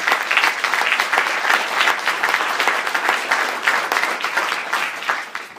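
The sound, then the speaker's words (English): Sustained applause from an audience, dense overlapping claps forming a steady bright wash that holds loud for several seconds before tapering slightly at the end. “So how about a hand for this awesome job”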